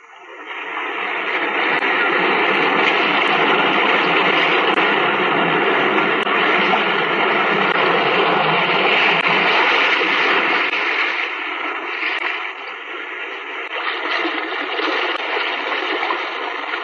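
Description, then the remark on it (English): Loud, continuous roar of sea waves surging inside a cave by the sea, a dense rushing wash that swells and barely eases for the whole stretch, with a slight lull near the end and no voices, opening the radio series The Weird Circle. “In this cave by the restless sea, we are met to call from out of the past stories, strange and weird.”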